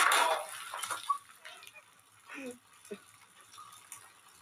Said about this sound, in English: It's just pure insanity. Like, the project has turned into a giant water fight with like water balloons